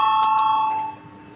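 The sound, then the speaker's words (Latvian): A parliament voting bell rings clearly before a vote on a proposal: two quick metallic strikes feeding a sustained bright tone that fades out just before a second of quiet room noise; nobody speaks. “Lūdzu zvanu, balsosim par piekto Zaļo un Zemnieku savienības frakcijas priekšlikumu.”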